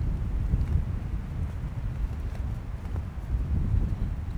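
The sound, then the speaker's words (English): A steady, heavy low rumble of a wind gust buffeting a microphone, thumping and fluttering for several seconds with no voices over it. “Now that's a gust blowing my thoughts away.”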